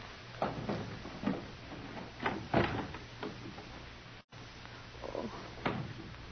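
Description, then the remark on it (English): A series of sharp clicks and rattles as a door is unlocked with a key and pushed open, with soft scraping and knocks spread over several seconds and no voices. “Open the door.”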